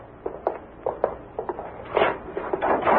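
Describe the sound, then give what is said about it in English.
A door is opened: a run of short clicks and knocks from the latch and handle, then a louder rattling swing near the end. No one speaks. “I opened the door.”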